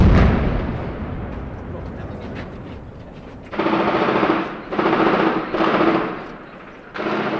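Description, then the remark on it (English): Heavy machine gun fire as the Israeli army, with tanks and helicopter gunships, attacks the Kasbah, the old quarter of Nablus: dense, rapid crackling of automatic gunfire rattles on for several seconds, then gives way to louder pulsing bursts carrying a steady droning tone underneath. “The Israeli army used tanks, helicopter gunships, and heavy machine guns to attack the Nablus Kasbah.”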